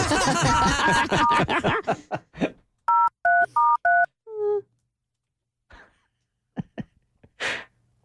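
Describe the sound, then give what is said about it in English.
A phone number for the Kicking Donkey is dialed on a keypad: four short, evenly spaced two-tone beeps ring out clearly after a burst of laughter, followed by a brief falling tone and a few faint noises. “How about we call the kicking donkey?”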